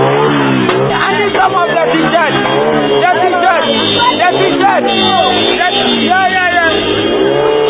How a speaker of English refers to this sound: At Nima, the convoy was caught up in traffic for almost 30 minutes, and the cheering crowd demanded party paraphernalia.